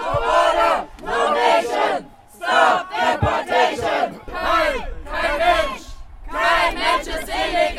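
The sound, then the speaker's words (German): A crowd of protesters against deportation chants in unison on an airport observation deck as deportees board a bus from the terminal to the plane: loud rhythmic bursts of shouted slogans separated by brief pauses, the voices rising and falling together in a steady cadence. “Als die Abgeschobenen im Bus stiegen, der sie vom Terminal zum Flugzeug bringen sollte, wurden die Sprechchöre auf der Aussichtsplattform lauter.”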